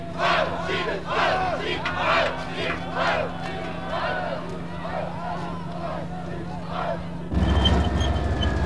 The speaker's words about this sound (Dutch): Na hem zal nog een tank volgen en in het kielzog daarvan lopen manschappen van de mobiele eenheden het centrum van de kraakactie binnen. De mannen van de mobiele eenheid worden begroet met een Sieg Heil.